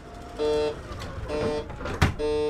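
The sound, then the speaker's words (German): Two steady electronic warning beeps sound clearly, each lasting a fraction of a second, over a low vehicle hum with a brief mechanical thump between them. They are the door opening and closing warning signals of a small red-white-black shuttle bus in Hamburg's HafenCity. “Das einzige Geräusch sind die Warnsignale beim Öffnen und Schließen der Türen.”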